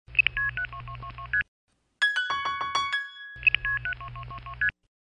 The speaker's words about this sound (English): I wonder how many tones that is. 1, 2, 3, 4, 5, 6, 7. 7 tones. Well, maybe each tone stands for one of the digits I dialed. That would make sense. It was a 7-digit number.